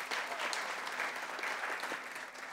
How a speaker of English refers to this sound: Praise God. Give the worship team a hand clap. God bless you.